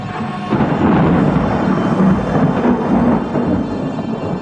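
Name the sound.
thunder rumbling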